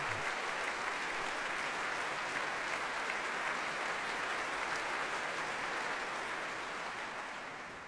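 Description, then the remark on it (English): Sustained audience applause, a dense steady wash of many hands clapping at an even loudness for several seconds, tapering slightly at the end with no voices over it. “If the applause stops, that is.”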